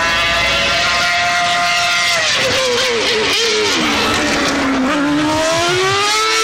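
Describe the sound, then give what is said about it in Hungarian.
A Formula 1 race car engine screams loudly at a high pitch, its tone sliding up and dropping through gear changes as it passes, with no one talking. “Könyvet meg akarni nyerő, nem tudja a Forma 1-es hangot, ő szirénázhat.”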